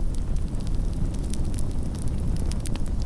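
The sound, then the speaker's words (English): A campfire in the woods crackles steadily, with soft irregular pops and snaps over a low, continuous rumble of burning wood, no voices present. “We didn't even hear the wind rustling through the trees, just the gentle crackling of the fire.”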